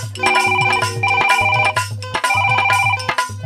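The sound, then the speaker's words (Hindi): A phone rings on an outgoing call with a bright electronic ringtone melody, its short tonal phrase repeating three times in steady rhythm, loud, with no one speaking. “अरे तनी अपने भैया के फोन लगाओ रे भैया, देखो तारा ना सब मरद अपना अपना मेहर लगे आके सट गईला।”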